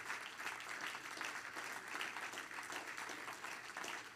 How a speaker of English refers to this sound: Everybody stand and clap your hands to the Lord.